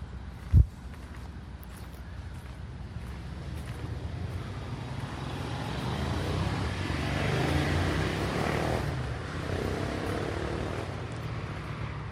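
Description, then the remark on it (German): Steady road traffic noise rumbles continuously in a forest near the Stuttgart TV tower, a broad low wash of passing vehicles, with one sharp brief knock near the start and no voices. “Wenn Sie genau hinhören, können Sie abseits von dem Straßenlärm die verschiedenen Sendungen hören, die von dem Fernsehturm ausgehen.”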